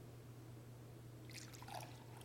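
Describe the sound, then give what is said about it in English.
A short, soft pour of liquid into a cup begins after a moment of quiet low hum, a light splashy trickle lasting about a second. “Then after they were finished eating, he took a cup”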